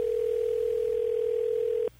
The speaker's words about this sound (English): Let's give her a call and make sure she heard that. Well, is it ringing?